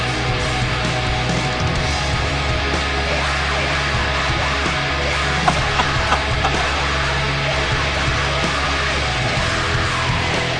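Alternative metal plays throughout: a dense, roaring wall of distorted guitars and pounding drums at constant high loudness, with a low droning bass underneath and no clear vocal line standing out.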